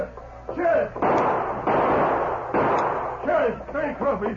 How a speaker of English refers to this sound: He saw the outlaws approaching and drew back out of sight until they passed the office. Then the sheriff opened fire. As he triggered his guns,